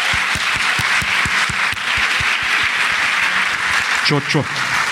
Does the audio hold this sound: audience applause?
yes